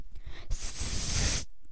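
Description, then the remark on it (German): A single sustained, breathy snake hiss, loud, lasting about a second before cutting off abruptly. No one speaks. “Was war das für ein Geräusch? Eine Schlange!”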